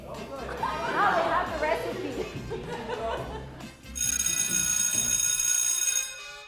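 Lively crowd chatter and laughter fill the first half, then a loud electric school bell rings steadily for a couple of seconds, announcing the start of a lesson, before abruptly stopping.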